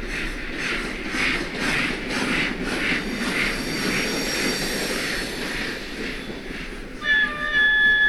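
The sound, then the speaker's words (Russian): A steam locomotive rumbles steadily with rhythmic, evenly spaced chuffing pulses, heard at a museum exhibit beside a railway carriage of that era. Near the end, a sharp, high whistle-like tone briefly cuts in over the noise. “Здесь посетителей ждет небольшой сюрприз – возможность не только посмотреть, как выглядел железнодорожный вагон того времени, но и услышать гул паровоза.”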